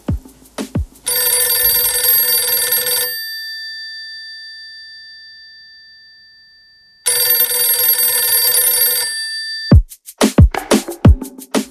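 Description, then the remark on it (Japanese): A telephone rings loudly in two long, buzzy bell bursts separated by a few seconds of fading quiet, with a few sharp clicks at the start and end. “電話が入りました。”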